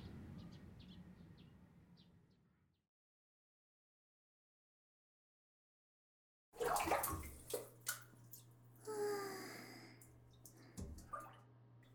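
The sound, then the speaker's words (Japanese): A shower runs: steady running water hisses for a few seconds, then cuts to silence before splashing and gushing water returns with a low humming drone and scattered drips and clatters. “とりあえずシャワー浴びたい。そうだね、一緒に入ろうか。”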